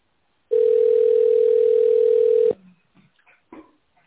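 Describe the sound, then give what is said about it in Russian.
A single loud, steady telephone ringback tone while waiting on the line for a secretary at the company Renaissance Medical Group, sounding for about two seconds at a flat mid pitch, then cutting off, leaving faint clicks and line noise. “Наберите добавочный номер специалиста или дождитесь ответа секретаря.”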